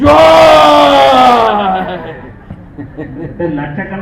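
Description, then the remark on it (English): A huge crowd of lakhs of voices roars in joy as Lord Baladev's crown appears through the lion gate, a loud sustained swell that breaks off after a moment and settles into a lower, scattered murmur with occasional cries. “And then you have, I don't know how many lakhs of voices all go”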